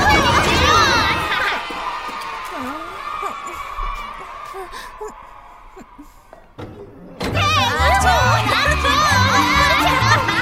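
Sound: children shouting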